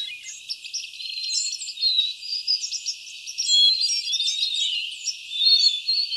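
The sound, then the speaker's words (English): A dense chorus of many birds singing at once, overlapping chirps, trills and whistles from several directions, steady and lively throughout with a faint insect-like buzz beneath and no voices. “April and May are the times to really listen to the choruses of birds, especially early in the morning”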